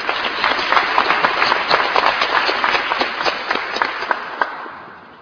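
An audience at a memorial gathering breaks into steady applause to thank a colleague who organized the event, many hands clapping in a dense, crackling patter that holds at an even level for several seconds before thinning slightly at the end. No one speaks.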